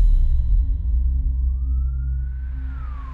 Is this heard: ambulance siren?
yes